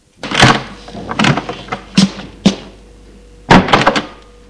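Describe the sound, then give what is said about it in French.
A door to a small smoking lounge opens with a series of wooden clunks and rattles: a sharp knock, a few scraping thuds, then a louder cluster of bangs near the end. No voices. “La porte s'ouvre.”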